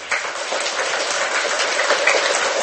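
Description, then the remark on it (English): An audience applauds for invited guests, a dense, steady wash of many hands clapping that starts abruptly and holds at an even, fairly loud level throughout, with no voices. “So let's start with a round of applause for our guests, please.”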